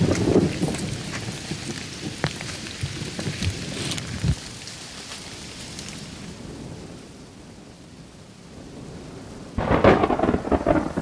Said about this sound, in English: That was the craziest bolt of lightning I've ever seen. That was like some power of God shit. Finally, the lightning strikes and thunderclaps feel like they're right on top of us.